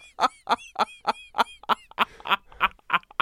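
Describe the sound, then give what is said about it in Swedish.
A green macaw parrot named Sune, from Tommelilla, vocalizes, giving about a dozen loud, raspy, syllable-like squawks in a quick, steady rhythm with no other voices present. “Ja, vi såg den på TikTok och kände fan vad lättydlig den är. Man hör ju exakt. En grön ara papegojan från Tommelilla.”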